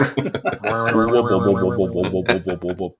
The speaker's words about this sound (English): Wiggling sound.